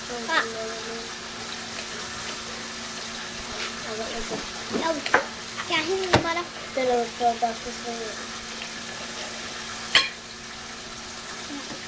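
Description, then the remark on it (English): Meatballs frying in a pan, a steady crackling sizzle running throughout with sharper pops and clatters now and then, while a person talks over it. “The meatballs. Yeah, meatballs. Meatball fire.”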